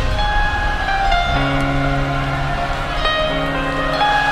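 subway train passing

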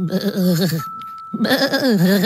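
sheep bleating

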